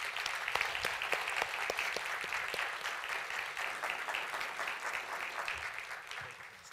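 A crowd claps steadily and loudly to welcome a speaker, a dense wash of many hands with a few sharper individual claps standing out early, then tapering slightly toward the end.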